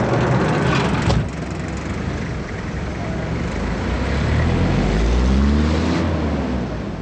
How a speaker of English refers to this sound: German soldiers carefully checked passing cars for bombs and other weapons, opening trunks, looking under the hood, pulling some drivers off to one side to be searched.